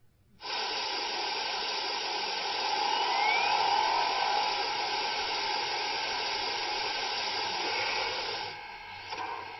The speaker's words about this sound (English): Let's get her steamed up.